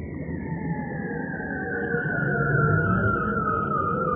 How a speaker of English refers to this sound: Yep, these weird alien-like noises are bearded seals. You get this most incredible sound where they sing these glissandos. So a bit like someone playing a trombone and gradually lengthening a trombone to give you a lower and lower note.